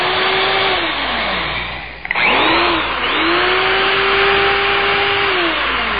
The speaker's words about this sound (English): A dentist drill? A dentist drill? Mm-hmm. Yeah. Why is there wind in that? Why is there wind in the dentist drill? I don't know. I don't get it. Dentist drill?